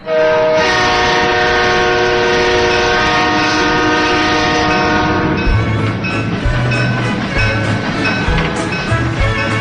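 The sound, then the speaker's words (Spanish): A train horn blares loud and steady for about five seconds, then cuts off as the heavy rumble and rhythmic clatter of a train getting underway takes over. “llegamos a la estación del tren, esa cita semanal que nos lleva a un viaje hacia el pasado, un punto de referencia para nuestro viaje en el tren de los recuerdos. Así que no esperamos más y subimos.”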